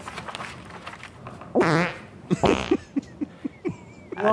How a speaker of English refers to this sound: They put in the fart when they are dying. That's true. I don't know. It's a really well edited video. And they put the fart in there?